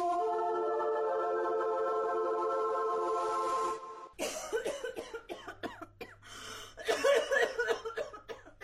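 human body sound, coughing

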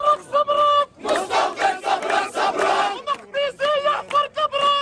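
crowd, crowd chanting slogans

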